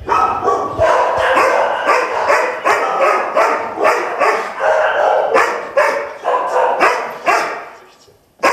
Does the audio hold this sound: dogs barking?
yes